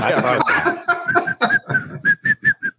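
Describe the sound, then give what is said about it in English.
Someone whistles a short tune as a string of clear, evenly spaced notes, starting amid breathy, laugh-like sounds and growing cleaner and more distinct toward the end. “You should whistle that.”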